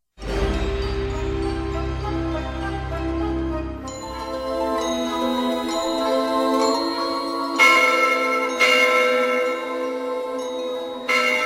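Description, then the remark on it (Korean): A bell rings on its own during a reading of The Wizard of Oz, a deep resonant tone giving way to brighter chiming strikes every few seconds, each one ringing out in long, overlapping shimmering tones. “그때 종이 울렸다.”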